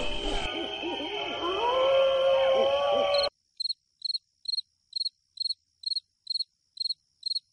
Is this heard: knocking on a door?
no